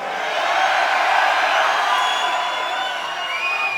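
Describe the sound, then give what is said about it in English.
A large concert crowd in Chicago screams and cheers in one sustained, loud roar, with shrill high-pitched shrieks and whistles cutting through the steady wall of noise the whole time. “You like to scream out there, Chicago?”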